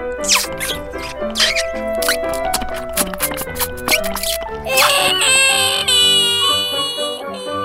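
A baby wails in high, drawn-out cries that rise near the end, set against busy, bouncy background music with steady percussive beats.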